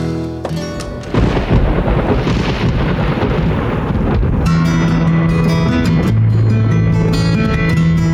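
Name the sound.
thunderstorm with rolling thunder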